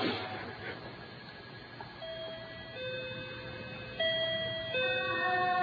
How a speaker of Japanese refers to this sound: じゃあちょっとね、インターホンをね、ちょっと呼んでみたいと思います。